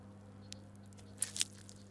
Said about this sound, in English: This large monkey frog is in the process of swallowing a cricket.